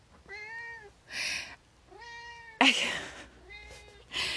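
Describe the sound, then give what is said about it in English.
A kitten meows three times, each drawn-out cry separated by short breathy, hissing bursts, with no talking over it. “Oh, kitten. Kitten says hello.”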